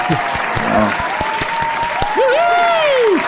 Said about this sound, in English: Whoa! Round of applause!